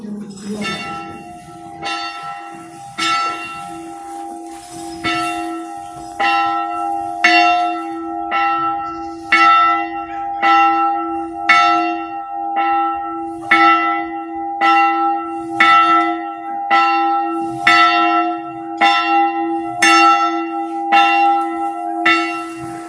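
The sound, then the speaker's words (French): A church bell rings steadily as the call to mass, about fifteen evenly spaced strokes with a long shimmering hum between them, fairly loud. “Alors là, la façon dont vous avez sonné, c'est l'appel à la messe.”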